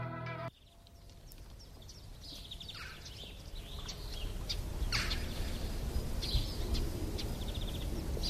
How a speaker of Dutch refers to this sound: Heerlijk. Heel veel vogels heb je ook vaak voor zo'n festival.